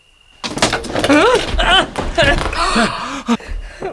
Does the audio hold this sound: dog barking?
no